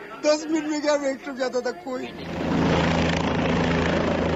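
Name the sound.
rescue helicopter flying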